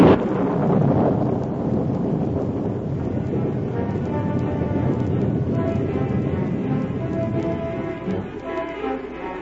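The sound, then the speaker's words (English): A heavy thunderstorm at night: a deep rolling rumble of thunder opens, then steady, dense rain hisses on without a break, loud, with gusts of wind in the background. “Without hat or coat, unafraid of the storm, Sue ran into the night”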